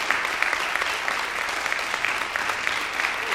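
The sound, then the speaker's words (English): An audience claps steadily for a few seconds for the organizers' hard work on a month of programs, a dense wash of many hands at a fairly even, sustained loudness with no voices rising above it. “And so if we could just give them a round of applause for all of the hard work that they have put in this month.”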